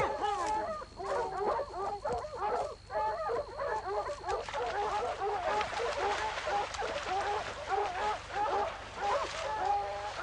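A dog barks and yelps over and over in a dense, rapid stream of loud calls that carries on for the full length without pause.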